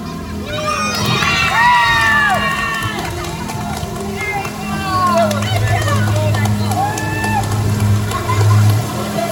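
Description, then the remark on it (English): A crowd of children cheers and shouts continuously for a girl, with no booing, many overlapping high-pitched voices rising and falling, with a steady low hum running underneath for the whole stretch. “Yep, there were no jeers, only cheers for my daughter.”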